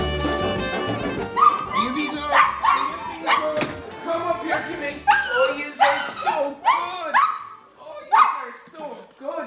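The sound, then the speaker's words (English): Father Ray Kelly's two dogs, Biddy and Buddy, bark and yip at the parochial house in Oldcastle, County Meath, in a quick, uneven series of short, high-pitched bursts, some rising into whiny yelps, fairly loud for about nine seconds with no one talking. “Father Ray Kelly, along with his two dogs, Biddy and Buddy, has been living and working from the parochial house in Oldcastle, County Meath, for the past 8 years.”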